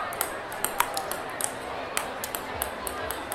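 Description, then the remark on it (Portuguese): Ping-pong balls bounce on a table set up on the tram tracks at Largo de São Francisco to block the tram's passage, in quick, irregular clicks, sharp and bright ticks scattered across a few seconds over a steady background hiss, with faint murmuring voices underneath. “O tabuleiro de xadrez foi usado nos trilhos do Largo do Machado, enquanto no Largo de São Francisco você só ouviu o som das bolinhas de ping-pong com a mesa instalada ali para interromper a passagem do bonde.”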